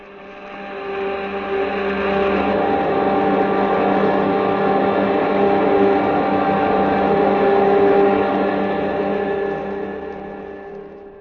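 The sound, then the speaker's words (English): Spaceship jet dynamos, driven by the harnessed power of 1,000 suns, hum in a steady, layered drone with several sustained tones, swelling up over the first second, holding strong, then tapering off at the end. No one speaks. “Those jet dynamos you see before you exist. Jet dynamos driven by the harnessed power of 1,000 suns.”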